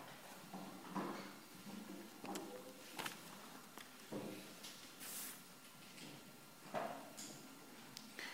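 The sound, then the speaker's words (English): A door is shut, with a handful of soft knocks and scrapes spread over several seconds and a faint hiss in the background. “you can close the door.”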